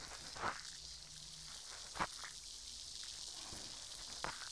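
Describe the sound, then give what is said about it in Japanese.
A steady, soft fizzing hiss with a few sharp crackling pops scattered through it, made by the tip of a cotton swab worked gently and carefully. The sound is quiet and continuous, with no talking. “シュワシュワ、パチパチって、心地いい音がしてますね。”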